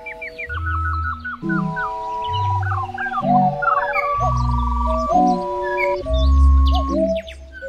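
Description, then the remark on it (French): A flock of cranes in flight calls nonstop, loud rolling bugles and trumpeting cries overlapping in a dense, continuous chorus, with no voices present. “Réponse, les grues crient. Elles crient, crient, crient sans arrêt.”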